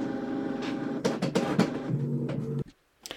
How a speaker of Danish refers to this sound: Undskyld, det var printeren, der gik i gang.